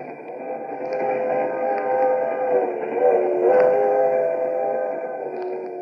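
A moving train rumbles steadily along the rails, a continuous, fairly loud drone with faint tonal whines and a slight swell in the middle, no voices.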